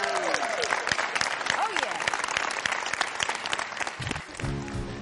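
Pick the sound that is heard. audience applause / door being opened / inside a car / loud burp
audience applause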